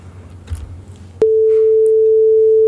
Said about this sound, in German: Wir können mal den Sinuston abspielen, um zu wissen, wie sich Vollsynthese anhört.